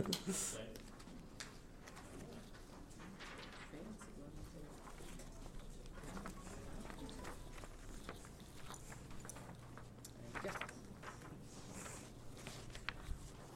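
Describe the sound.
Paper rustles and crinkles in scattered bursts as sheets are handed around a room, with low murmuring voices and shuffling movement underneath.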